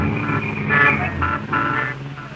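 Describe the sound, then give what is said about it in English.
Heavy evening street traffic in New York, heard from a cab riding up Broadway toward a theater off Times Square, rumbles steadily while several car horns honk in overlapping bursts, loud, with a constant engine drone underneath. “I know the traffic will be heavy, so I suggest we start right off to the theater. My cab is waiting.”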